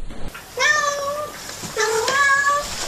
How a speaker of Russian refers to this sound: Туся! Масяня! Масяня, скажи мяу. Сяня, мяу, скажи мяу.